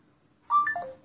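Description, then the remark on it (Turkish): A short electronic phone chime rings out alone after a moment of quiet as an NFC tag is touched to the phone: a quick run of two or three clear, bright tones, moderately loud, fading within half a second. “Bu etiketlerden bir tanesini telefona dokunduruyoruz.”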